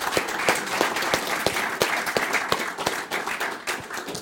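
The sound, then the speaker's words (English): An audience applauds the panellists at the end of a panel discussion, with many overlapping hand claps forming a dense, continuous patter that holds at a fairly even level throughout. “Let's give you a round of applause.”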